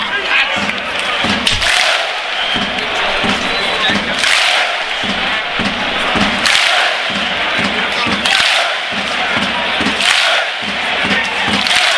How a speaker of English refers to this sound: This is the fast clap, slow clap, fast clap.